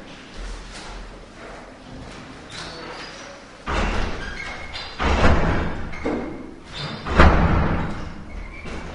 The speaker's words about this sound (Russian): Давайте я закрою дверь.